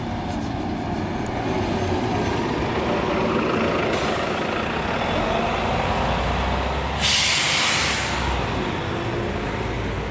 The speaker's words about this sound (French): J'entends le bruit d'un moteur. Et le passage d'un bus.